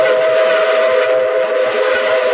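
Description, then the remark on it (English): A New York Central train whistle blows steadily and loudly over the rumble of the passing train, a sustained tonal blast with continuous rail noise beneath it. “The New York Central.”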